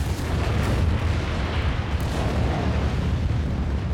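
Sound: movie explosions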